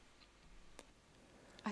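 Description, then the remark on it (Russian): A single sharp click from a dictaphone placed beside Prabhupada's head being switched on as he began to speak, short and fairly faint against low background hiss, followed moments later by a voice starting to speak. “Поэтому на записях постоянно слышны щелчки.”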